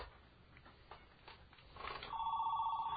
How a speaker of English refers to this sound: And we're going to hear the phone this time, I believe, if it does ring.